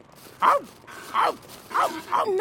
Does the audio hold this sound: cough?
no